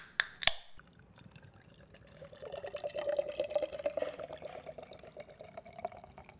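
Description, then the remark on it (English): A sharp crack of a can of Guinness being opened, then a steady stream of the beer pouring and gurgling into a glass for a few seconds, clear, with no talking. “let's crack open a Guinness.”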